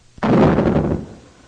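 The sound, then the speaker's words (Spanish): A single heavy door, the door of Noah's ark in a retelling of the Bible story, slams shut with a sharp, loud thud, followed by a deep booming rumble that fades out over about a second. No voices accompany it. “Cuando todos habían entrado, Dios mismo cerró la puerta.”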